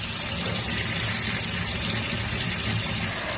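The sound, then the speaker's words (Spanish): Water pours steadily from a tap set to the cold position on calle Sol, a thermometer under the stream rising to 40 degrees, filmed by councillor José María Sellés, in a continuous, fairly loud rush of splashing noise with no pauses and no voices. “En este vídeo que han publicado, el concejal José María Sellés hace la prueba y graba cómo un termómetro bajo el agua asciende a 40 grados a pesar de que el frío, a pesar de que el grifo está en posición de frío.”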